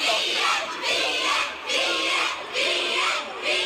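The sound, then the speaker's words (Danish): A voice imitates a crowd of teenagers in front of a bookshop at a shopping centre shouting "Fie" for Fie Larsen, a loud, rough chant rising and falling in four steady bursts, each about a second apart. “Nej, så kan jeg se, der står en masse teenager foran boghandlen.”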